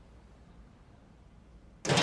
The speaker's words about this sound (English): Wrapped up warm in the winter sunshine, he walks towards a substantial 3-story white-painted hotel with a restaurant occupying part of the ground floor. He comes in through its curved glass door.